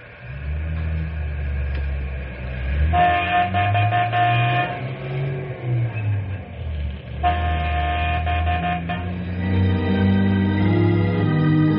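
A train rumbles along steadily, sounding two long, loud horn blasts a few seconds apart over the low engine drone. No one speaks.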